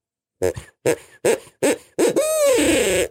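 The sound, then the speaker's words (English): A hunter blows an ARO owl call: five short, loud hoots in a steady rhythm, ending in a longer, wavering, drawn-out hoot that trails downward. No other sounds or voices. “This is the ARO owl call.”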